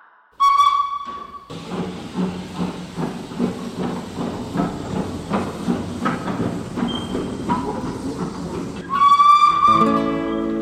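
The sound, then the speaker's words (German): A steam train pulls away from platform 10 of a station: a loud whistle blows, then hissing steam and rhythmic chuffing build and roll on steadily before a second long whistle sounds near the end. “Meine Damen und Herren, Achtung an Gleis 10. Die Türen schließen selbsttätig. Vorsicht bei der Abfahrt.”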